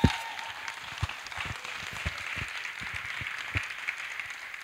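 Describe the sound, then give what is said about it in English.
A church audience applauds steadily for the man who played the shofar, a dense wash of many hands clapping with sharper individual claps popping out irregularly, fairly even in loudness throughout with no voices standing out. “See, give him a hand clap.”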